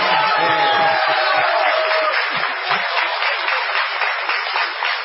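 An audience claps steadily for about five seconds, a dense, loud wash of many hands with no break, and a faint voice or whistle briefly rises over it at the start.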